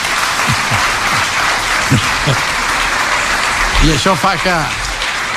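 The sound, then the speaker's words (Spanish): Steady, loud applause from a crowd at a La Vanguardia forum, following Laporta's remark that Madrid represents power and Barça freedom, fills the whole clip, a dense hiss of clapping hands, with a few brief voices rising over it near the end. “Bueno, pues entre aplausos, la frase de Laporta és: el Madrid representa el poder y el Barça representa la libertad.”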